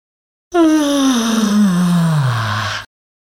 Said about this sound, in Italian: Eseguire una serie di sbadigli, aprendo la bocca soprattutto orizzontalmente.